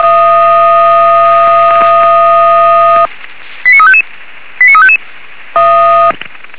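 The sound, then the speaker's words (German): A loud steady multi-tone alert blares for three seconds, then two quick bursts of rapid rising and falling beeps, followed by the steady chord-like tone again. It is a Weimar fire brigade radio paging alarm alerting units in Legefeld to an operation on the A4 motorway toward Dresden. “eine Weimarer Alarmierung. Einsatz für die alarmierten Kräfte BFFF Legefeld.”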